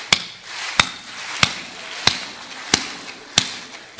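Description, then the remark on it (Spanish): An audience, told to clap on a count of one, two, three, claps along to a steady beat, about seven sharp, evenly spaced claps, each trailed by a ragged smear of stragglers landing slightly off time. No one speaks. “Miren, aplaudan. 1, 2, 3.”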